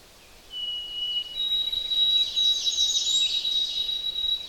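An ovenbird sings alone, a bright, high series of repeated two-note phrases that grows steadily louder and more insistent over several seconds, with no voices present.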